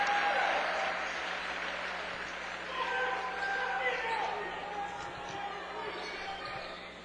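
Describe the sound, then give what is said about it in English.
Steady applause and cheering from Dort College fans at a basketball game as player Van de Kamp checks out of the game, holding at a fairly even level for several seconds, with faint voices and game noise mixed in beneath. “Van de Kamp will check out of the ballgame to a round of applause from the Dort College faithful.”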